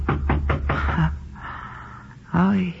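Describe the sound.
Four firm knocks on a door at night after a concert, in a steady, evenly spaced rhythm, followed by a short pause and then a brief wordless voice sound.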